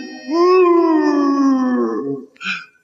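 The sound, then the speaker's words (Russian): A single drawn-out dog-like howl at the moon, loud, holding a steady pitch before sliding slightly down and fading, followed by a short sharp yelp. “Потому-то я так мало лаю и все больше вою на луну.”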